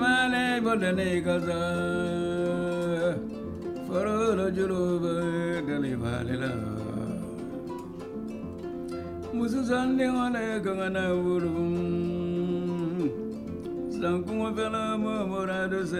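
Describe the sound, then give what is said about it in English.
A kora plays a continuous, full-toned melody for the whole stretch, rich and resonant at a steady moderate volume, with no talking over it. “I'm playing the kora now.”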